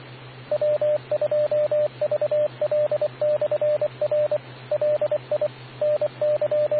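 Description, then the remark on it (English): Radio repeater timeout tones: clusters of short, mid-pitched electronic beeps repeating in quick bursts over a steady low hum and faint radio hiss, with no voices. “Another Lafayette radio that I have, which is on 10 meters, it's the HA410, also uses 7 meg rocks, or crystals, to bring it to the 28 meg band. Repeater, timeout.”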